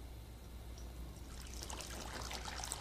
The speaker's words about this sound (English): And you heard the life-giving waters of Christ fall into the bowl.